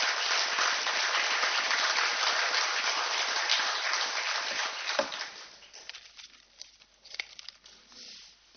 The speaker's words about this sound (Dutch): Mag ik voor jou ook een applaus en mag ik jou ook naar voren roepen?